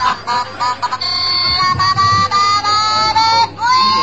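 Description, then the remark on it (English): A novelty frog toy, just opened as a present, plays its loud electronic noise, a buzzy, warbling run of synthetic tones and pitch glides lasting several seconds with no talking over it. “And it even makes the noise.”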